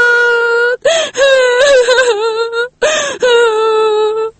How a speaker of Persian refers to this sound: من خوش هستم. ای گریه گریه خوشیست نه گریه غم.